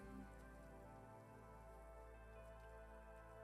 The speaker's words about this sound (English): Torrential rain.